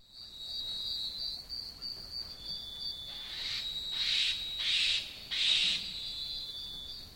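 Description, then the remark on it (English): A bird gives a hiss call in the second half, a series of four breathy, hissing notes, each a short broad burst, over a steady high-pitched insect-like drone that runs throughout. “Hiss call, series of four notes.”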